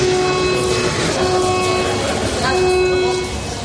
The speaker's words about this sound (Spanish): Es una sirena. Es el sonido que anunciaba que había llegado tu turno y ha sido un sonido constante.